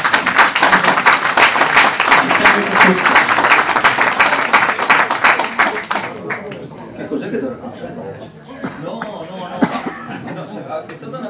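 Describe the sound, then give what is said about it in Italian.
An audience breaks into a dense burst of applause for a guest, many hands clapping at once for several seconds before it thins out and fades beneath a murmur of voices. “Facciamo un bel applauso, un grande applauso al nostro ospite.”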